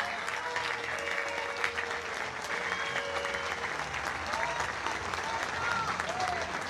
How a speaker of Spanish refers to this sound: 27 emprendedores obtuvieron su reconocimiento y los saludamos a su deseo de superación y contribuir por la economía local. Les damos un reconocimiento, por favor, y un aplauso a todos ellos.